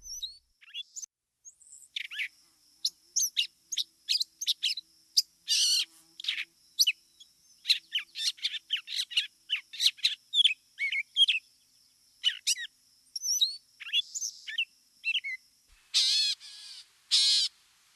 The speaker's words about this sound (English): Catbirds are like mockingbirds that they can steal songs from other birds, even frogs and machinery.